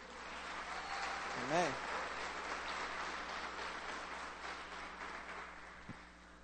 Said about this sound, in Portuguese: Aplauda o Senhor que Ele é digno.